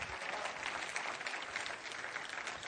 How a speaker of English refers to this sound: Yeah, come on, give him a great clap offering one more time.